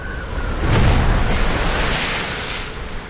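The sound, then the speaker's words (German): Water laps and washes steadily against a shore or hull in a sheltered harbour bay at the port city of Galveston, where a 19th-century three-masted ship lies at anchor, a continuous soft surf with a breezy, wind-blown hiss over it and no voices. “In einer geschützten Hafenbucht liegt die Elissa, ein Dreimaster aus dem 19. Jahrhundert, zur Besichtigung vor Anker.”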